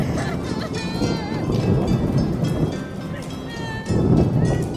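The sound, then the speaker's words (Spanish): Low, rolling thunder rumbles through steady rain, swelling louder near the end, with faint whistling tones drifting above the storm noise. “Se vistieron de luto y los truenos acompañaron los rezos.”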